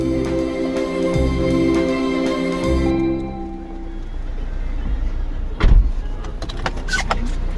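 A car on the move, heading first to a migrant hostel to drop off what is in the car, with a steady low engine and road rumble, a whining hum fading after a few seconds and a single dull thump near the end.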